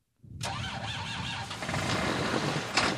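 A tractor engine cranks and sputters as it tries to catch, a rough, loud rumble close by with a sharp clank near the end and no voices.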